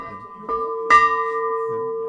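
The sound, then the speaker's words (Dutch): A ship's bell, a fog signal to show a ship was nearby, is rung by the rope hanging below it, two quick clangs followed by a long, steady metallic ring with several sustained tones that hum on and gradually fade. “Weet je hoe dit heet? Nee. Onderaan de klok hangt. Dat is een allemans eindje.”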